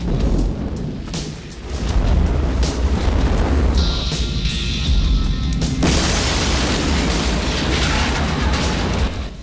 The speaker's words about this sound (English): He holds the lighter up for a moment and then throws it into the motel and walks out. The place bursts into flames behind him.